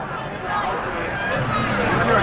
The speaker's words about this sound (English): Saturday night crowd still filing in here in the bottom of the first inning.